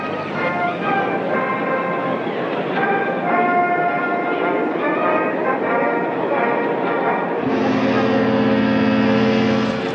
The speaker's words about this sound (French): Voici maintenant, nous sommes à peu près à la dernière partie du lancement. Le bateau vient de parcourir à peu près 300 mètres. Et l'entrée, l'avant du bateau, va maintenant entrer dans l'eau.